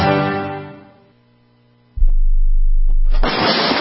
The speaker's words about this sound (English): That's the sound of your door being kicked in by an intruder with a single kick.